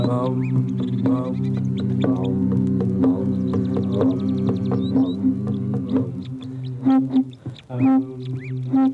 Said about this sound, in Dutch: Die zijn te stoned, die vogels. Te gek. De koppen, weet je wel. Precies de vogels die we moeten hebben.